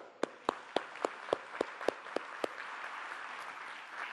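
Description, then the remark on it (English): An audience at a Visual Studio launch event in Japan applauds Scott Guthrie in a steady wash of clapping, with a run of about nine loud, evenly spaced claps standing out at first before the applause carries on more diffusely. Nobody speaks. “How about one more round of applause for Mr. Scott Guthrie?”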